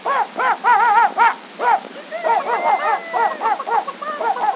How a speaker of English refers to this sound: that nasty dog is at them chickens again. Confound that dog.